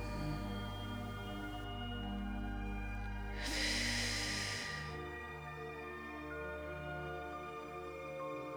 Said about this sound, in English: So we'll breathe this way for a few breaths, in through the mouth, out through the nose.